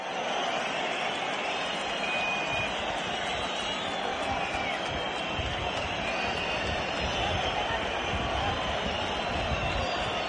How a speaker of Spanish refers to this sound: Esta marabunta de gritos es la petición de orejas al maestro César Rincón.